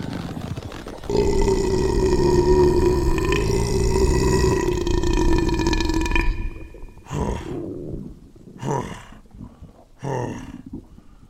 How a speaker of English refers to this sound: Thank you, War Greymon. I feel so embarrassed. I've never burped like that before.